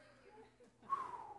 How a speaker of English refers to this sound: These women sneezing.